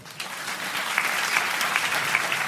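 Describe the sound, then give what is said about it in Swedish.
A live audience claps steadily for a few seconds, answering a spoken request to applaud as an applause poll, a dense, even patter of many hands with a lively roomy feel, no voices standing out. “Vi kan göra en applådenkät kanske. Ja. Kan alla som är gall applådera?”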